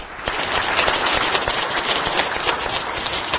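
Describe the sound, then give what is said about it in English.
A crowd applauds, a dense, steady wash of many hands clapping at once, crackly and fairly loud, holding at an even level throughout with no voices over it. “So let's give them a round of applause to thank them for all that they do.”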